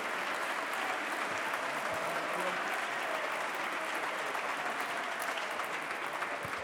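Sustained applause from a large group in parliament after the Prime Minister's speech fills the whole stretch, a dense, steady clatter of many hands clapping at an even level without pause.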